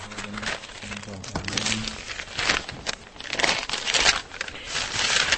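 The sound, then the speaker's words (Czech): Crinkly plastic rustling comes in repeated bursts, fairly loud, as an archaeologist takes excavation finds from Podlažice out of small bags one after another: temple rings, a finger ring, pottery fragments and a buckle; a faint low hum early on. “Doktor Frolík vytahuje ze sáčků nálezy z Podlažic.”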